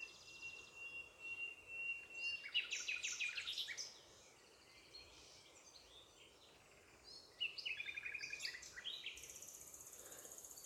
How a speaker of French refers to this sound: L'objet de ce moment, l'objet de notre méditation, ce sont les rossignols. Alors établissons clairement l'envie d'être présent et d'entendre chaque chant de rossignol, chaque phrase.